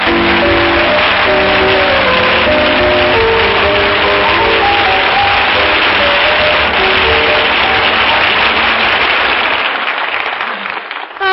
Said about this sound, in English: I don't have to tell you how glad we are to have you back safe and sound. Our audience just told you that with their applause.